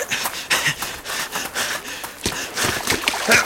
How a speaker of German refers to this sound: der Ball rollt ins Wasser.